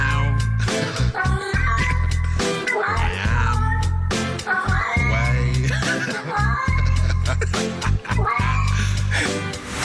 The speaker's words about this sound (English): He can hear what the singing cat is saying, and he's turned the singing cat to music. It's amazing.